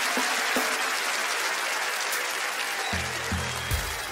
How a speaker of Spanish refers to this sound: ¡Un aplauso para los dos! ¡Un aplauso para los dos!